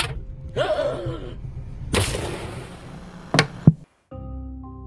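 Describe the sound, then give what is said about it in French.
French gendarmes smash the window of a couple's car during a roadside check: a broad crashing burst, then two sharp, loud blows in quick succession, followed by a brief silence and a steady low hum. “jusqu'à ce que les forces de l'ordre cassent la vitre de la voiture”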